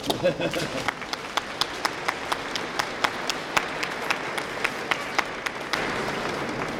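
An audience applauds a group of young girls who play the violin: a dense burst of clapping that settles into steady, rhythmic unison claps, then swells back into a fuller wash of applause at the end.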